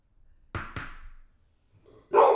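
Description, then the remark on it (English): A guard dog barks, reacting to what it took for banging on the door: two quick, sharp woofs in close succession, a short pause, then a louder bark cut off at the end. No one speaks. “Guard dog thought someone was banging Boxy on the door.”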